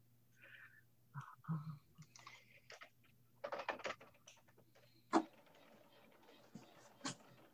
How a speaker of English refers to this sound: And six of you weighed in on here, and I'm gonna go do some typing while you read this, and then roll forward to the next slide in a bit there.